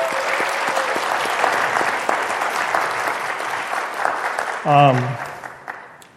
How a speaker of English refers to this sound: Well, I appreciate your comments. Let's give the panelists a round of applause again.